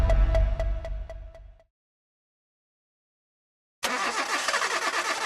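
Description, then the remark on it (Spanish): A car engine cranks with a steady clicking rhythm, falls silent for a couple of seconds, then roars to life loudly and keeps running, with no voices. “¿Quieres que tu carro dure más, que corra más suave y que rinda mejor? Tranquilo, estoy hablando de tu motor.”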